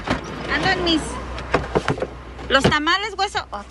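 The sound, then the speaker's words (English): A car of customers picking up a food order pulls up and idles as its electric window whirs down with a short motorized hum, while people talk over the steady low rumble of the engine. “As we talk, a car pulls up next to us and rolls down its window.”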